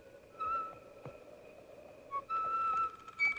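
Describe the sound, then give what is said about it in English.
A lanky man riding a horse into dark woods at night whistles a slow, wavering tune in a few short phrases, soft, over a low bed of rustling background noise with no talking. “The lanky man whistles.”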